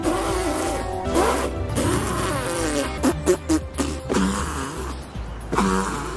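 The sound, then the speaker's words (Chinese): A run of buzzy, sputtering fart sounds, fairly loud, coming in uneven bursts with a quick cluster of short pops in the middle, used in a film as the speech of a school bully talking to the main character. “第二天小帕整个人脱胎换骨，但校霸跟小帕说话却像放屁一样。这里不是比喻。”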